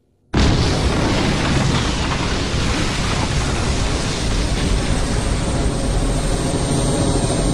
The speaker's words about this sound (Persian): منبع حرارتی، انفجار.